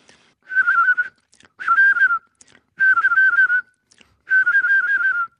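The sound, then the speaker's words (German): Song of a mistle thrush, the largest native thrush, bigger than a blackbird, singing early in the year: four short, fluting phrases of wavering whistled notes, each under a second long, separated by brief pauses, clear and fairly loud with no talking. “Das ist die größte unserer heimischen Drosselarten, größer noch als die Amsel, und die singt sehr früh im Jahr, also gerade jetzt, und klingt ein bisschen wie eine etwas leiernde und stümperhafte Amsel.”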